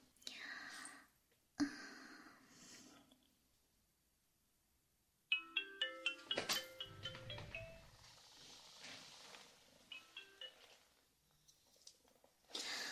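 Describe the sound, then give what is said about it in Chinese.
A soft whisper opens, then the ringing tone of an outgoing phone call to a neighbour sounds: a run of clear, bright electronic notes stepping up and down in pitch, moderately loud, repeating in short bursts. “今天晚上我先给他打个电话吧。”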